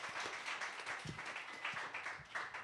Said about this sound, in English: Give him a round of applause, everybody.